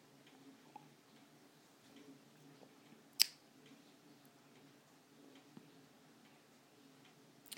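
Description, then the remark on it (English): Faint ticking of a wind-up mechanical clock with chimes and weights, with one sharper, louder click partway through and a few softer clicks scattered around it. “I am gonna wind my clock up, but I usually do it on a Sunday, but when I was carrying the boxes just now, one of them hit into it, went boing, it made all the chimes, the weights and that go doing, and I thought, oh god, have I stopped the clock?”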